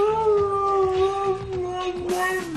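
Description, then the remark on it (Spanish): Mirka, a female Siberian husky famous online for imitating the words her owners say to her, lets out one long, loud howl, holding a steady pitch with slight speech-like wavers that sound like she is trying to mimic words, then dipping at the end. “Mira, por ejemplo, Mirka es una perra siberiana que se ha hecho famosa porque habla, imita las palabras que le dicen sus dueños y ahora es el perro más famoso de Internet.”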